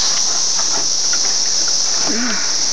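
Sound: cicada buzzing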